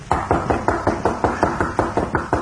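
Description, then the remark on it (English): A steady series of about a dozen quick, solid knocks on the wooden rear door of the Cutler home, evenly spaced, with nothing else heard. “A short time later, Gimp knocked at the door of the Cutler home.”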